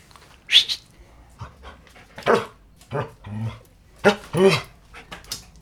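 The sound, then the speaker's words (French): A dog barks several times in short, uneven bursts, with some panting or soft whimpering between the barks and a bit of background voice. “Voilà, le chien a l'air d'accord.”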